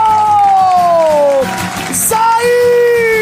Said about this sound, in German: Wir haben heute 8 fantastische Finalistinnen hier beim Finale vom Nightwash Talent Award. Alle bekommen einen fetten Applaus heute mit dabei.